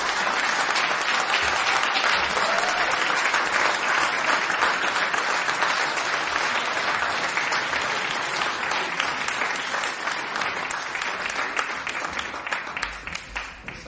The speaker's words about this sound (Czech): Pardon, ještě poslední příjemná povinnost, prosím o potlesk také pro naší skvělou moderátorku